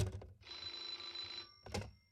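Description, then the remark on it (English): A telephone bell rings once for about a second, bright, with a dull clunk just before it and another right after, like a handset being handled. “will you ring that Murray Hill 40098 number again?”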